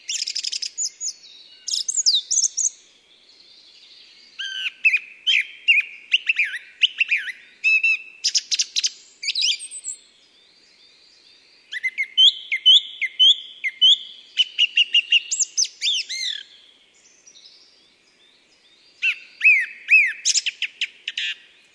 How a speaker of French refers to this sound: Nous sommes en forêt, vers 1200 mètres d'altitude, le 1er juin. C'est la fin de la nuit, et le premier oiseau qui chante, c'est la grive musicienne.